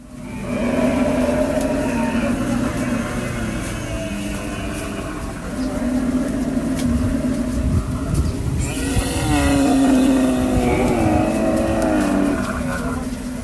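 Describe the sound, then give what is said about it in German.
A herd of about 200 dromedaries, including baby dromedaries, bellows as it passes, a dense, continuous mass of low, gurgling groans, joined toward the end by louder wavering moans that rise and fall in pitch. “Also rührende Dromedare müssen viele gewesen sein.”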